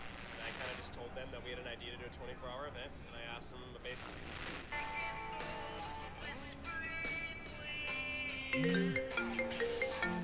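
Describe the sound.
A mobile phone ringtone for an incoming call on the Fourth of July starts partway through, a bright repeating melody that grows louder over a windy, rumbling outdoor background with faint, muffled voices.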